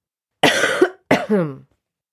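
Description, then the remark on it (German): Two harsh coughs in quick succession, the second ending in a rough, voiced rasp, with no talking around them, from a sick person with fever and headache. “Ich bin krank. Fieber, Kopfschmerzen, Husten und im Bauch habe ich's auch noch.”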